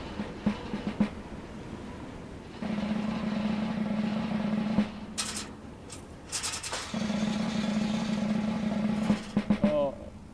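Ropes creak under heavy strain as a team's wooden throwing arms are winched back, in two long, low groaning drones lasting a few seconds each, separated by a couple of sharp knocks and rustling.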